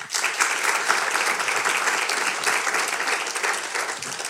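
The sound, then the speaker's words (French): Steady audience applause fills the whole stretch, a dense crackle of many hands clapping at an even loudness with no voices standing out. The audience applauds in answer to being asked who had listened to the first ones. “Par applaudissement, qui a écouté les premiers ?”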